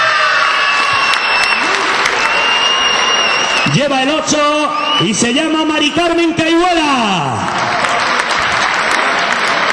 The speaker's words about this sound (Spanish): También un fuerte aplauso para el número 14, la número 14, Tina Falcón Bernay.